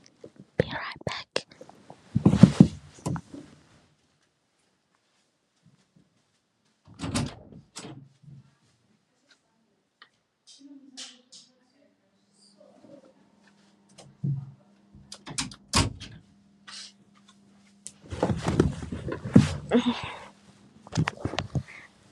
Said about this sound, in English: I think I should close the door first.